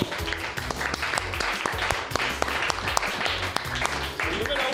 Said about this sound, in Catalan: Medalla, tens medalla? Medalla d'oro. Molt bé, felicitats. Un aplaudiment.